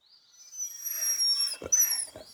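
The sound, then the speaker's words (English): A three-legged dog that cannot walk whimpers in high, thin, drawn-out whines, broken by two short breathy snuffs near the end. Fairly quiet, with no talking. “This doggy has got three legs. It can't walk.”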